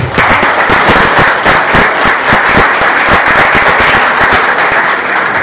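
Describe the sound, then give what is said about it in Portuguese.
An audience at a municipal council session stands and claps steadily at night, many hands producing a dense, loud patter of sharp overlapping claps that continues evenly throughout without any talking. “pois esse parlamento municipal agradece a todos que estiveram nessa noite e nós levantamos e batemos palmas a vocês que merecem o nosso respeito.”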